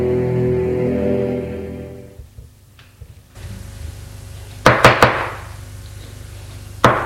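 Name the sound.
knocking on a door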